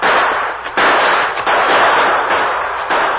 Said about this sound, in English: In the twilight, the Lone Ranger and Tonto exchanged shots with the two remaining outlaws.